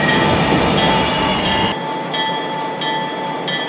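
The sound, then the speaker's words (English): A train running at restricted speed grinds to a halt at a railroad worksite with a steady metallic screech of brakes, harmonic squeal over rumbling noise; the low rumble cuts out midway, leaving the high whine with periodic small surges. “We're currently operating at restricted speed using extreme caution as per supervision. This is good right here. Go ahead and bring it to a stop.”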